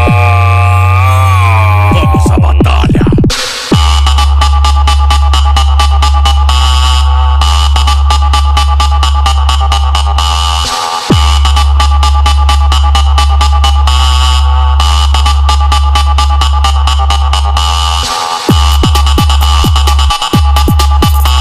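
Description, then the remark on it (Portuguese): Thunderous, sustained bass tones pound from car sound system speakers, SB Triton speakers with Taranas modules, with a distorted, buzzing electronic melody over the top and brief drops where the low end cuts out and slams back in. “Os grava aqui é forte, é uma porrada na cara.”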